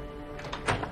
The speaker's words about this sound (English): They look to the sound of the door opening.